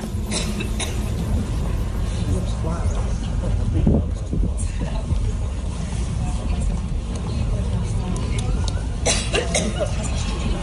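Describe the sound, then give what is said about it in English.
Several short, sharp coughs from Hillary Clinton as she walks into a statue unveiling break through a steady low rumble of traffic and crowd noise, with a pair of coughs near the end and faint murmuring voices in the background. “But Hillary, as she was walking into a statue unveiling, she got that annoying cough back that she had during the campaign.”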